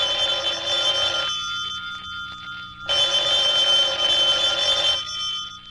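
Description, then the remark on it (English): A telephone rings in two long bursts separated by a pause of about a second and a half, each a loud, bright electric bell trill with no one speaking. “Would somebody answer the phone, please?”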